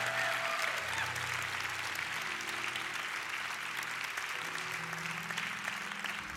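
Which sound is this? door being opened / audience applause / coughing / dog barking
audience applause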